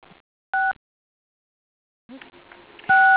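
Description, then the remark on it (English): Two short, loud phone keypad tones, each a steady dual-pitch beep, sound a few seconds apart over quiet line noise with brief rustling between them, as callers on a phone call press 6 to mute themselves. “So before I begin, if you are on the call, if you'll please hit 6 on your phone, which will mute you, that will help.”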